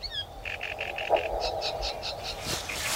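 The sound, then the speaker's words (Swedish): A great reed warbler sings in an alder swamp among reeds, a harsh, rhythmic series of repeated chattering notes, each phrase a short burst, with a steady low hum of background noise underneath and no talking. “Sveriges största sångare, rent av, i storlek nästan som en trast. Och som den låter.”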